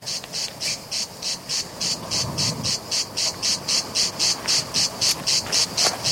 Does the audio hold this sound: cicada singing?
yes